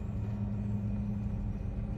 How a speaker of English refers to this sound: The earthquake is coupled with the distinct sound of engines and the clank, clank, clank of tank treads echoing from deep in the black pit of the subway tunnel. You turn around. The same sounds rumble from the other side, too.